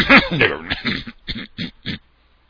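Someone clears their throat with a rough, drawn-out rasp, then lets out three short, evenly spaced coughs, fairly loud, with no talking.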